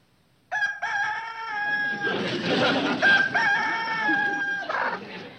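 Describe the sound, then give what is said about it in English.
A rooster crows loudly, a long, drawn-out cock-a-doodle-doo with a second strained call following right after, heard on its own with no one talking. “You mean if we would have a chicken, then the rooster would?”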